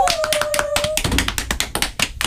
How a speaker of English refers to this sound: Clap, clap. Clap, clap.